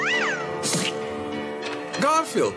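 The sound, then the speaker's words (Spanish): A cat meows several times, with drawn-out, wavering cries at the start and near the end and a brief breathy burst between them. No one speaks. “Qué voz particular que tiene el gato este, ¿eh?”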